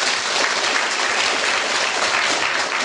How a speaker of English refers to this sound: And I think I'm going to call upon our delightful-looking studio audience to be the judge. Now, do you think I should award a point to Sheila Hancock for that? Clap if you think so.